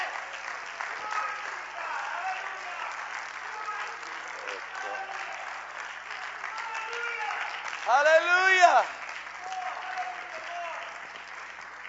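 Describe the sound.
A crowd claps steadily throughout, a dense wash of applause with voices calling out over it and one louder shout near the end.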